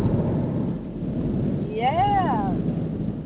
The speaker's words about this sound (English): Let the thunder roll.